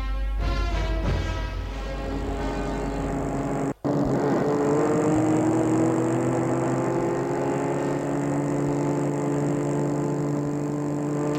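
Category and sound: vehicle, car driving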